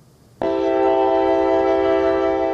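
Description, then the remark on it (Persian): A passenger train's horn at the Dushanbe railway station, where the Kulob–Volgograd train stopped, blasts in suddenly after a brief quiet moment and holds one loud, steady, multi-toned blare, with no talking. “پس از توقف بیشتر از 2 ساله، قطاره کولوب ولگاگراد صبح روز 16 آگوست به دوشنبه رسید و نزدیک ظهر از دوشنبه به سمت ولگاگراد حرکت کرد.”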